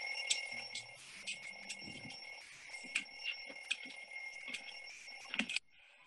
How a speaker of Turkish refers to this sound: Bu sefer ana karakterimizin kitaplığındayız. Kitaplığın arkasına gizlenmiş alarm sesini, alarm saatini durduruyor.